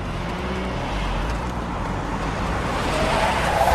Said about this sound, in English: Jack steps out to ambush the speeding black car.